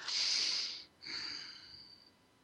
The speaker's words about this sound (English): Take a couple of deep breaths and get those breaths to go right down through your whole body and down into the perineum.